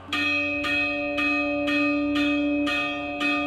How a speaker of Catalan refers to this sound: L'endemà al matí, totes les campanes de la ciutat van tocar a sometent. Els barcelonins eren cridats a la revolta.